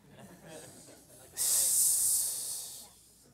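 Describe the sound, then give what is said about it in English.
A voice imitates a hiss, a single sharp, breathy burst that rises suddenly and holds for about a second and a half before fading, following some quiet murmuring. “Like, I mean, somebody have a better hissing?”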